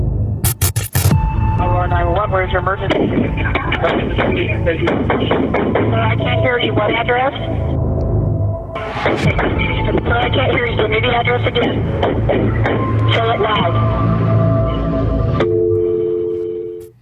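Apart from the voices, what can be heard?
gunshots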